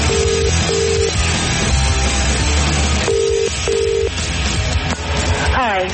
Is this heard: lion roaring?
no